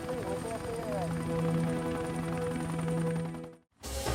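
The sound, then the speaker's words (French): An FBI helicopter flies along Highway 50 near Stateline, Nevada, in 1980, at an altitude of 150 metres, searching a 25 km stretch for a signal. It drones steadily with a rapid rhythmic rotor chop and a low engine hum, fairly loud, before cutting out abruptly near the end. “Le pilote d'un hélicoptère du FBI scrutait un segment de 25 km de l'autoroute 50 à la recherche d'un signal.”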